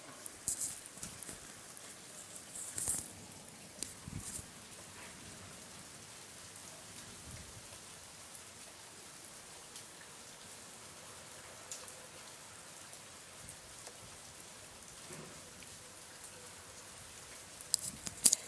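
Heavy rain that has just begun falling in Stiftingtal on Friday, 27 August, falls steadily, a continuous dense hiss with scattered sharper drop impacts on surfaces, with no voices throughout.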